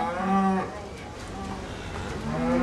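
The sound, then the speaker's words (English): Dairy cows moo twice on a dairy farm in Vermont's Northeast Kingdom while they are being milked, a drawn-out low call at the start and another rising in at the end, with a steady background hum between them. “Randy Mead and his family are milking their cows right now.”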